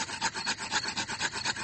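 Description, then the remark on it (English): Two wooden sticks rubbed briskly together to light a campfire without matches, a dry scratchy rasp repeating in a steady back-and-forth rhythm, moderately loud with no voices. “Daddy Pig is rubbing the two sticks together to light the campfire.”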